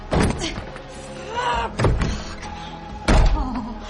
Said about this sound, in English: Esther kicks the door.